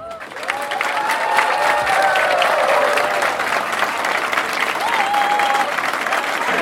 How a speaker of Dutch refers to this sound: Maar in dit geval zou ik je graag willen vragen om voor onze toppers, onze kampioenen, onze geweldenaren, een oorverdovend applaus te geven terwijl zij hier door de ereraad lopen.